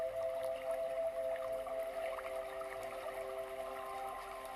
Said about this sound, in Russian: И вы слышите, что где-то невдалеке мощный водяной поток.